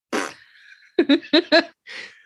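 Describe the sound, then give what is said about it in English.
A person blows a raspberry-like fart noise with their mouth: a buzzy burst, then a quick series of sputtering pops and a breathy trailing puff, fairly loud. “Why did I have to do a fart noise for that?”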